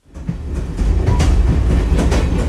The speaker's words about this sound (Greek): Για περισσότερο από 100 χρόνια, ο ηλεκτρικός είναι μέρος της ζωής μας. Μας ταξιδεύει από τη μία άκρη της πόλης στην άλλη, γρήγορα και σίγουρα, κάνοντας την καθημερινότητά μας πιο εύκολη και ευχάριστη.